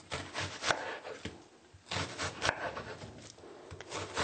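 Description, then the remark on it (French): A knife slices an onion into strips or dice on a wooden board, with a series of uneven scraping and cutting strokes, some sharper and louder than others. No one speaks. “Alors, nous allons mettre de côté ces légumes que nous avons préparés et occupons-nous de l'oignon. Nous allons le trancher soit en lamelles ou bien en dés.”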